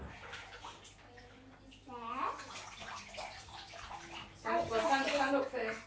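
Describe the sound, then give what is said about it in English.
Bathwater sloshes and splashes as a bath sponge is dipped in the water and soaked until soaking wet, with a young child's high voice chiming in over the watery sounds. “Dip the sponge in the water. Nice and soaking wet.”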